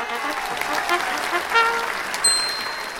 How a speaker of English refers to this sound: I think we probably need some sort of big round of applause here